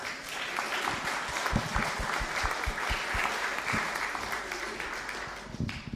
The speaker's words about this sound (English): So I don't know if this is our tradition or not, but I think you should give yourselves a round of applause.